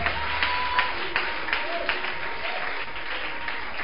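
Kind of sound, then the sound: crowd, audience clapping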